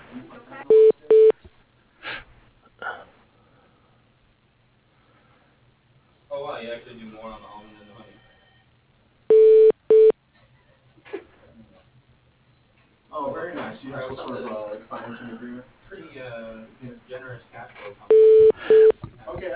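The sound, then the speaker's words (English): A telephone ringback tone sounds in three short double bursts, spaced several seconds apart, as a business call put through to a man goes unanswered; muffled talking fills the gaps between the rings. “he's not answering his phone.”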